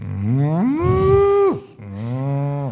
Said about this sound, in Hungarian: That's how the cow sound.